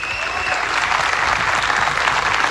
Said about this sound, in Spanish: También solicito para Manuel Araneda, un hombre de radio también que trabajó tantos años, un fuerte aplauso en su memoria.